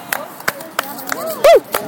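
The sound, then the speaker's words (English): A handful of sharp, irregularly spaced hand claps ring out, mixed with brief vocal sounds and a loud, distorted voiced burst near the end. “I don't know what we're clapping at, but we're clapping here.”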